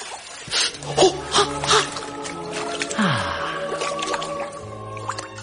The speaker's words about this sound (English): So I ran myself a piping hot bath to make it better. First, I put on my favourite CD, then eased myself gently into the water.